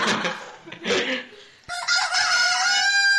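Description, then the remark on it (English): A rooster crows loudly, a long harmonic cock-a-doodle-doo held for over a second, preceded by a burst of rough squawking and flapping-like noise. “Wait, so you're a chicken? I was more of a rooster, but...”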